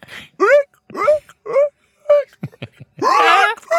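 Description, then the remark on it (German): A voice imitates hiccups heard in a wine cellar, where the echo made them sound like a seal's bark: four short, rising, wailing yelps in a steady rhythm, followed by a few breathy bursts and a longer, louder moaning cry. “Und dann hat die Schluck aufgekriegt. Und durch das Echo klang das wie eine Robbe.”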